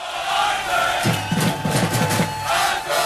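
A large crowd of fans of a new Major League Soccer club roars, then breaks into a loud, rhythmic unison chant of a few repeated syllables acclaiming the club owner, called Uncle Arthur, before dissolving back into broad cheering and crowd noise.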